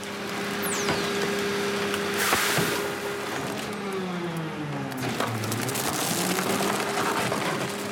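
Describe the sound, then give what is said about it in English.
A garbage truck's hydraulic compactor in Charlestown groans with shifting motor whines as it compacts mattresses and desks, wood cracking and splintering in sharp bursts, loud, with no voices. “I watched over and over that scene of the trash truck compacting mattresses, desks, almost kitchen sinks in Charlestown.”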